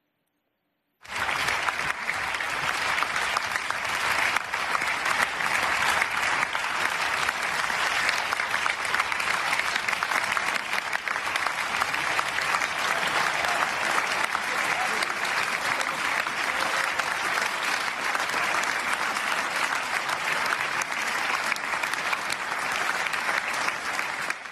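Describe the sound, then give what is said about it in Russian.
Dense, sustained applause from standing members of a parliament applauding each other after a vote. It begins abruptly after a brief silence and carries on at a steady, even level for over twenty seconds, with no voices standing out. “А после того, как они проголосовали за то, что вообще ничего не значит и ничего не меняет, они встали и на протяжении 40 секунд друг другу аплодировали.”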